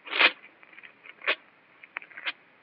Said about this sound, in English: I can't trust you. So I tear up the paper and burn it. See?